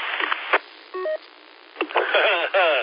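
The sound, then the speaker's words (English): A brief two-tone electronic beep signals an incoming phone call, sounding once between stretches of muffled, telephone-quality talking. “Well, listen, I just had a phone call come in”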